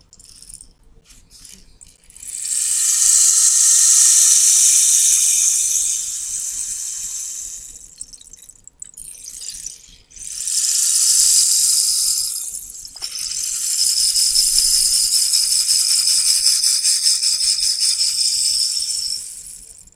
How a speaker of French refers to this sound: Et le bâton de pluie.